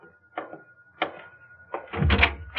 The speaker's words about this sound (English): Oh, I've got the door. No, let me.